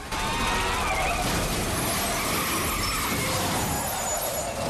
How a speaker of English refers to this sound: Shaft manages to take out Peoples' driver just before the red car flips over and rolls.